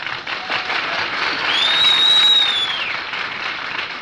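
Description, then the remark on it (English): Sustained audience applause as the musical host, a bandleader, is introduced: a dense crackle of many hands clapping at once, swelling slightly in the middle with a faint high whistle riding over it before settling. “You people are generous with the applause”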